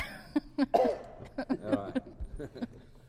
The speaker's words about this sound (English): I'm sorry. That's okay, I've got a cough too. Try to hold it in.